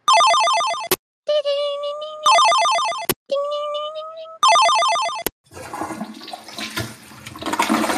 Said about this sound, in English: You poop. You flush the toilet.